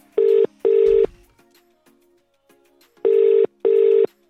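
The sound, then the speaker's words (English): A telephone call being placed to the Gaping Goose, a public house; the ringing tone repeats twice, each ring a pair of short, steady, mid-pitched buzzing pulses followed by a silent pause. No voices are heard. “Okay, so I'm going to call the number for you now.”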